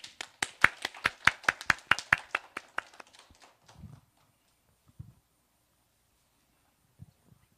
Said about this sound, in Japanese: 神様に感謝して拍手を持ってお迎えしましょう。